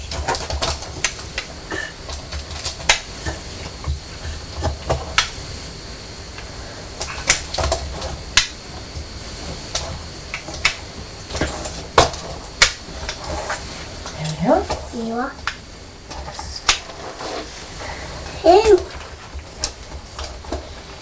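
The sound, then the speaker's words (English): Magnetic toy train cars clicking and clacking together repeatedly as their strong magnets clip them together, irregular sharp taps scattered throughout, with a brief soft voice sound near the end. “The magnets are very strong, aren't they? They clip together easily.”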